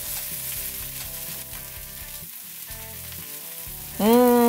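A rava dosa sizzles on a hot pan as a steady, crackling hiss throughout, with melodic tones playing alongside. The sound swells louder in the final half-second, and no one speaks.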